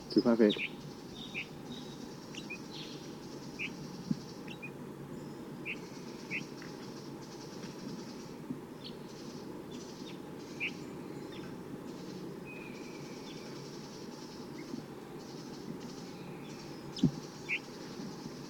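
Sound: wild bird calling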